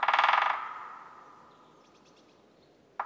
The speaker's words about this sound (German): Das Klopfen gehört zu einem Specht. Ich kenne den Buntspecht, der hat so rote und weiße Federn. Einen Specht habe ich schon oft gehört bei uns im Wald, weil der ist ja auch so laut.